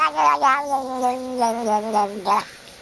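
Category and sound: animal, cat making noises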